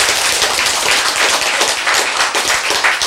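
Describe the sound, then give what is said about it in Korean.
Steady audience applause for about three seconds, a dense, continuous wash of many hands clapping at once, loud, with no voices over it. “왜 병아리가 되기 시작한데 그때부터는 안 썩어 생기가 탁 들어오면서 박수!”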